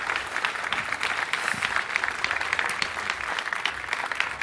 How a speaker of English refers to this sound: A warm welcome and a big applause for our speaker.